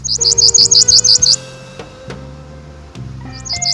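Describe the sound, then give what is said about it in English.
A palm warbler on the Dry Tortugas sings a quick, even trill of about nine high chips, then starts another run near the end, over soft sustained background music. “And while there are no ravens to count on the Dry Tortugas, birders can take solace in colorful songbirds like these palm warblers.”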